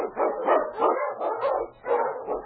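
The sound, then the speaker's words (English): King, a husky sled dog on the Yukon trail, barks excitedly: about five loud, harmonic barks in quick succession with brief whimpering yips between them and no talking. “On, you husky!”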